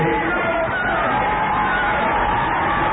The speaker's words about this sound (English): The crowd is cheering right now because the police officers on horseback were removed.